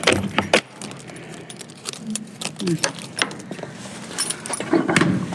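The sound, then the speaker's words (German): A thick, large, heavy door being opened after its heavy lock is removed, set in a wall over 2 meters thick, with metallic clanks and jangling rattles from its hardware, a few sharp knocks and low thuds spread unevenly over several seconds. “Ich bin gespannt, wie sich diese dicke, große, schwere Tür denn anhört, wenn wir sie jetzt mal öffnen.”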